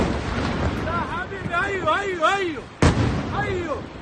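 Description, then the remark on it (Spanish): A single sharp explosion of an intercepted missile in Israel bursts out partway through, loud, over a steady rumbling background, while people's voices keep talking and calling out around it. “Cuando estás en el búnker más cercano y empiezan las explosiones, pues solo te queda cruzar los dedos para que funcione la cúpula de hierro.”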